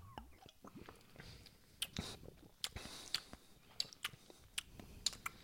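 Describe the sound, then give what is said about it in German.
Wet lip smacking and mouth clicks from someone tasting a cocktail repeat irregularly, about a dozen sharp pops over a few seconds, with soft breathy mouth sounds between them and no clear speech. “Herzlich willkommen zu den offiziellen Schmatze-Weltmeisterschaften.”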